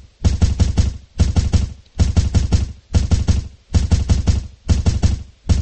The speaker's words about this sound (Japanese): なおも不気味なノックの音は止まなかった。いつまでも続くような感じの嫌なノックの音。ノイローゼにでもなりそうだ。